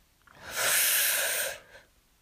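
deep inhale

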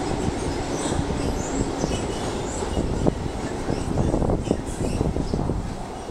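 train passing by

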